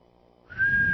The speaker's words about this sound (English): Did you hear the whistle in the audience? Got a whistle out of that, but not a damn word out of don't feed the animals.